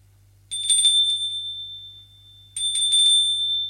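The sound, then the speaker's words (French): A doorbell at the right-hand door on a second floor rings twice, each a bright, metallic ring lasting over a second, with a short pause between. The rings are clear, over a faint low hum and no voices. “Deuxième étage, il sonne à la porte de droite.”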